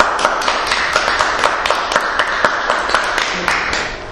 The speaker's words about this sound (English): We're going to try some applause.